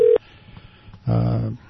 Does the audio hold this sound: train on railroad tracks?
no